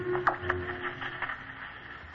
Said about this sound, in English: That's funny. Set broken? Couldn't be. Can hear static, but none of the stations are on now. Just that little music and nothing.